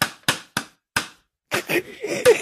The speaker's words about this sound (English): Turned into a slow hand clap.